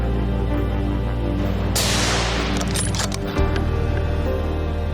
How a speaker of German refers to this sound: Mit gutem Schuss bricht das Alttier nach einigen Metern vor der Deckung zusammen.